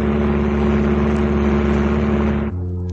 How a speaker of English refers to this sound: Oh, I thought so. Look! A plane! Vincent, they've bunged on an air search. They're spotting for us.